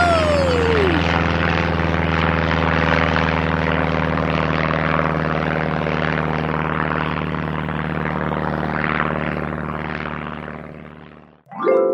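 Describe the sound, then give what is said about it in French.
A loud, sustained machine roar like a powerful engine at full throttle, with steady droning tones and a falling whine at the start, cutting off abruptly near the end, as a travel machine launches at maximum speed after a countdown. “monte dans la machine à voyage. Mets ces petites lunettes sur tes yeux, ça risque de piquer un peu. On va aller très vite.”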